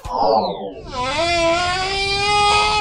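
humpback whale song

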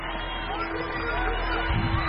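crowd murmuring

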